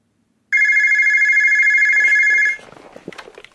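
A telephone rings with a single sustained electronic trill lasting about two seconds, loud, then cuts off as faint handling noises follow.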